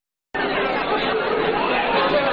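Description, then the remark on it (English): A large crowd of young Jewish adults chatting at once at a party-like Friday night gathering in the Addis Israel Temple, a synagogue in Washington, D.C.; a steady, dense wash of overlapping voices with no single speaker standing out, starting abruptly and holding at an even, fairly loud level. “A large crowd of young Jewish adults gathers in the Addis Israel Temple on a Friday night.”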